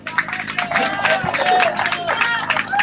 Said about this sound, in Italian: lo ricambiamo subito con un bel applauso.